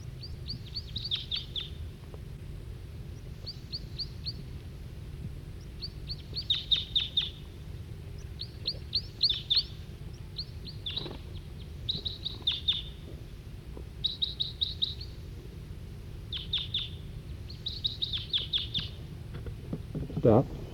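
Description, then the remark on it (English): A wild male bird sings in short, high-pitched bursts of rapid chirps, repeated every second or two over a steady low rumble in the background. “Still pointing at the male who's giving song.”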